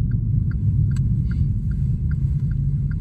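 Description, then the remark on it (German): An electric car rolls along quietly across the island of Borkum in the wind, giving a steady low rumble of tyres and road noise, with faint, evenly spaced soft chirps above it. No one speaks. “Mit dem E-Auto fährt er über die Insel. So leise, dass die wenigen Touristen, die dem Wind trotzen, ihn kaum kommen hören.”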